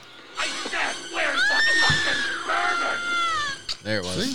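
Loud, drawn-out, high-pitched Nightmare on Elm Street-style screaming wavers and swoops for several seconds, then breaks off into a couple of short, sharp shrieks at the end.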